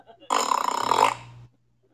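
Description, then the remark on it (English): A voice makes a loud, raspy imitation of a fart: one buzzing blast held for just over a second before cutting off, with no other talk around it. “When my old man and I are out hanging out, and he's walking around, and he rips a fart like that.”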